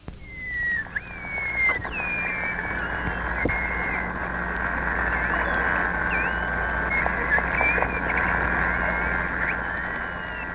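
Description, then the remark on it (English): Underwater whale chirps and whistles, recorded at sea: thin, high tonal sweeps rise and fall repeatedly over a steady hiss of sea noise, with occasional sharp clicks scattered throughout. No one speaks. “Whales generate chirps and whistles to communicate, navigate, and to find and identify food.”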